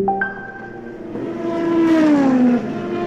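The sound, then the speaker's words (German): A racing car engine revs with a high, whining tone that climbs and then sweeps downward in pitch, loud and continuous over about three seconds, with no one speaking. “Klingt wie bei der Formel 1 und offenbar glauben auch manche Autobesitzer, dass sie eigentlich Rennfahrer sind.”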